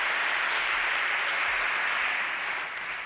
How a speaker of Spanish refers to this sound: aplausos del resto de los diputados de la Cámara.